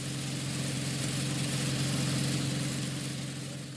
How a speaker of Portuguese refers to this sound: O motor do aparelho é de um Toyota e é feito de partes de velhos automóveis.